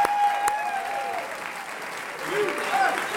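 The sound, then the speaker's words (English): A crowd applauds a woman guest steadily throughout, a dense wash of clapping with shrill whistles cutting through and cheering voices mixed in, swelling again toward the end. “Can we give her one more round of USA applause?”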